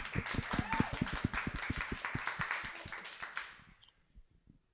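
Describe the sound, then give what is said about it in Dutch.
Applause from an audience of about 500 people: a dense, steady wash of many hands clapping for about three and a half seconds, then thinning out to a few scattered claps. “Zullen we eerst applaus geven?”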